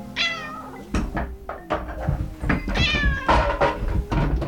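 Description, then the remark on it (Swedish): A cat meows twice, once at the start and again near the end, with sharp knocks and thuds of something being bumped in between, fairly loud. “Katter som slår till ett föremål och sedan blir skrämda av föremålet och flyger iväg åt något håll?”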